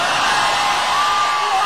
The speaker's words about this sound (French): Ah, toi aussi tu aimes crier à poil lors des concerts?